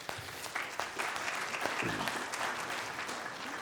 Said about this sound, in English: Let's clap, yeah.